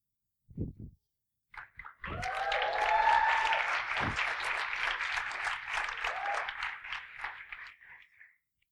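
A crowd at Harvest bursts into sustained applause after a brief thump, honoring people for their faithful service, the dense clapping holding steady for several seconds before tapering off.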